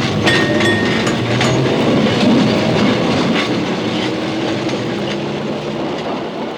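A tram rumbles and clatters along its rails, a loud, steady rattle with faint metallic clicks and creaks, continuous for several seconds with no voices.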